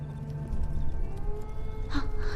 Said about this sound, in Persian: صدای گرگ هاست. لازم نیست نگران اون گرگا باشی، تا وقتی که حواست به اونایی که اینجاست باشه.